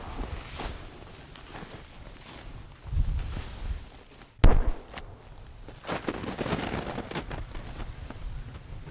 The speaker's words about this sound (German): Wally Meyer geht ein paar Schritte durch den tiefen Schnee in Richtung Hangkante.